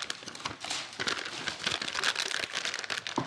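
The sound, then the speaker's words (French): Crinkling parchment baking paper being handled and laid out for a recipe, a steady rustle with quick crackly bursts, with no speech over it. “Donc, alors, on met bien du papier sulfurisé.”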